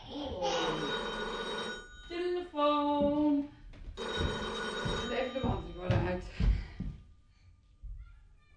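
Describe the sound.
A telephone rings in several bright, tonal bursts with brief gaps between them, and a voice murmurs faintly underneath before the ringing fades out.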